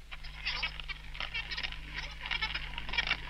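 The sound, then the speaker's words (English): A cylinder tracing machine, its cylinder revolved fast over paper bearing Morse telegraph tracings, plays back a message as a scratchy, squawking chatter that rises and falls like garbled speech, running steadily for a few seconds over a low electrical hum. “You know, it's often occurred to me that that sounds remarkably like someone talking. Listen again.”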